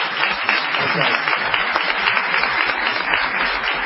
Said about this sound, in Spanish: Bueno, aquí tenemos, si vamos lejos, a Esther Goris. Le vamos a aplaudirla.